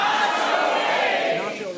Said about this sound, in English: Nacho rage. Nacho rage is correct. Ah. I love a whole audience of people, though, yelling nacho rage. There is something about that.